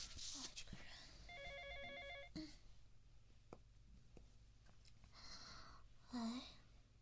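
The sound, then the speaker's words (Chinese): A phone rings with a short, rapid electronic trill lasting about a second, fairly soft, surrounded by rustling, clicks and faint breathy sounds. “怎么还打了电话？”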